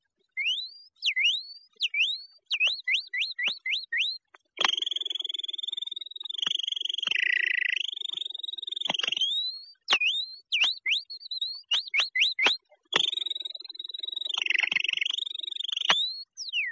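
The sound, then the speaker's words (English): On an Edison record, a person whistles an imitation of canary song: quick rising chirps in short bursts, then long, rolling warbled trills, repeated twice, clear with no talking. “The canary bird.”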